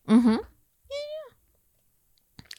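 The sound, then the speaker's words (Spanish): A person imitating a cat voices two drawn-out, meow-like cries, the first low and wavering, the second higher and gliding, followed by a brief faint rustle; the imitation is clear. “Pensé que le iba a hacer como gato y dije, güey, qué pedo.”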